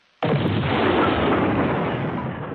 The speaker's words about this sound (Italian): Allora, un botto, un'esplosione, il cosiddetto Big Bang, così è considerato l'evento iniziale di un modello astronomico che riguarda lo sviluppo e l'espansione dell'universo